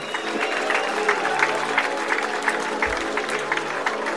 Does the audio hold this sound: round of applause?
yes